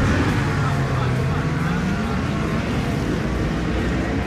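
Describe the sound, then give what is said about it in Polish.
Motorcycle racing engines roar loudly and continuously, a dense, droning rumble with a pitch that swells and dips slightly as the machines run. Recorded at the Poznań race track in Poland during the third and final round of the Polish motorcycle racing championship. “Ryk silników podczas tego weekendu słychać było także na torze Poznanie.”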